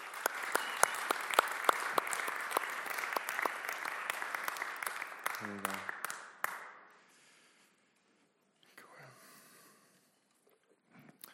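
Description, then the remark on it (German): An audience applauds the worship team loudly with dense, sustained clapping for about six seconds, then the applause fades out, leaving quiet background noise and a few soft sounds. “Können wir einfach dem Lobpreisteam kurz einen Applaus machen?”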